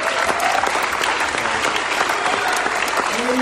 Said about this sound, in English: Now, why don't you give the Lord an exciting hand clap of praise tonight?